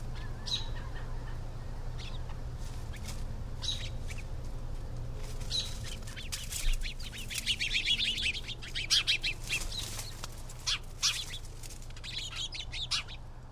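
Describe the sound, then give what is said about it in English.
Birds chirp and sing outdoors, a scattering of quick high calls that grows busier midway, layered over a steady low hum with no voices present. “I love the sounds of the birds.”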